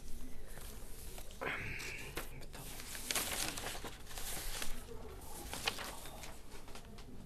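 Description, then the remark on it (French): Paper rustles and crinkles in a series of irregular bursts, a few sharper crackles standing out, as sheets are shuffled and handled while searching for notes, with no one speaking. “Pause, j'ai pas mon papier. Ah, c'est là.”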